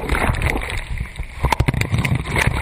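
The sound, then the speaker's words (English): Muffled, turbulent churning of water heard from beneath the surface as a wave rolls a surfer under and holds him there, a continuous rumbling roar with bursts of bubbling and sloshing, loud throughout. “This is what surfers call being held down. When a wave rolls you under the water and holds you there.”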